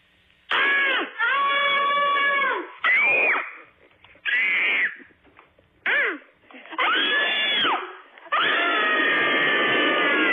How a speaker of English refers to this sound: We are small dairy farmers in Gilman, Wisconsin, and we are going to do our best cabin fever scream.